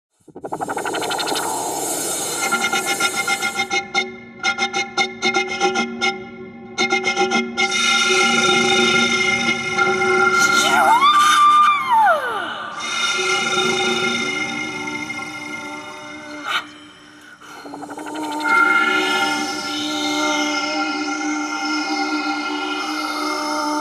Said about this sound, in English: In part one of Sonic Rupture, all of the installations use the elements, wind and water, to generate sound. This is Elemental Shapings.